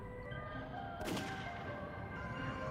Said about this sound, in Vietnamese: Một tiếng súng từ xa vọng lại. Tôi giật mình.